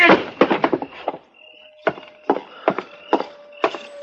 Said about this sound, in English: It was close, but he missed me. Well, you two didn't miss him. I don't know which one of you fired first, but either bullet would have done it.